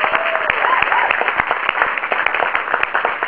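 A crowd applauds steadily for the whole stretch, a dense, loud patter of many hands clapping at once, with a faint whoop or cheer rising briefly near the start, applauding the SPJ, the Society of Professional Journalism.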